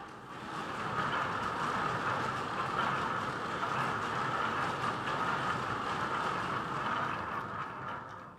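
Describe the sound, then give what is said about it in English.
A theatre wave machine made of cloth with wooden wheels inside, turned by people at either side so the cloth ripples, churns steadily, making a continuous rushing, rumbling clatter that swells slightly and holds for several seconds without any voices. “inside them are these wooden wheel things, and people would turn them either side, and they start rippling.”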